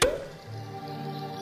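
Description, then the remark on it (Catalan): A cork pops out of a bottle once, a sharp, close pop with a brief hollow ring, then a soft sustained musical tone carries on underneath. “Destapa.”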